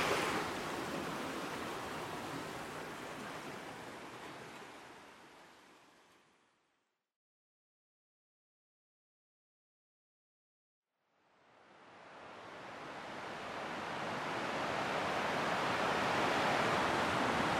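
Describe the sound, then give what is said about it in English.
Steady, broad roar of ocean surf where a small stream flows under a road and out into the sea, fairly loud, fades out to complete silence for a few seconds midway, then swells back in. No voices. “I'm at a nice little place where there's like a little mini river that goes under the road and out into the ocean.”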